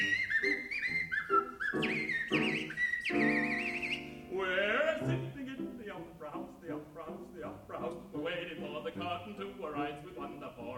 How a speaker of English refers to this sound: We whistle at the beat time with the drum.